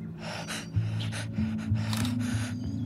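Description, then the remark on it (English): A female parrot, fluffing and bobbing, makes low, rasping, ragged breaths in a steady rapid series of gasping pants, fairly loud, with no talking. “She again came over to me and fluffed and bobbed, all while making the same ragged breathing sounds.”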